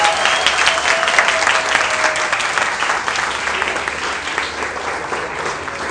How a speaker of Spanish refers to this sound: Entonces, ese aplauso no fue súper aplauso. A ver, como si estuviera en el teatro.